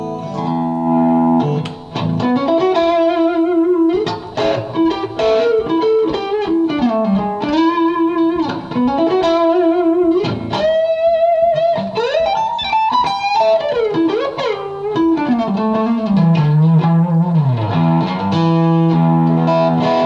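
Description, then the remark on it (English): An electric guitar played through an overdrive amplifier plays a continuous stream of bending, sliding lead lines and sustained notes, its clean tone audible through the overdrive, loud and steady with rich harmonics and no voices throughout. “I can hear the clean tone through the overdrive. So I'll turn the volume down a little bit on the guitar.”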